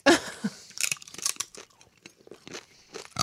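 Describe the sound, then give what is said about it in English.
Loud crunching of sweet potato chips being eaten, a burst of sharp, brittle cracks at the first bite followed by irregular chewing crunches over a few seconds, with no talking. “Oh my God, this is extremely crunchy. Can you hear it?”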